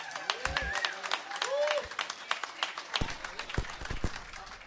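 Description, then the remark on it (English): A crowd breaks into dense, steady applause for dancers, with a few whistles and cheers rising over the clapping early on, then thinning into sharper, more scattered claps toward the end. “I want you guys please to join me again and give the dancers a round of applause.”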